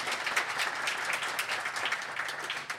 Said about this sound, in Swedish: Ja, hörni ni. Ja, en applåd kan de få, va, för att de kommer hit.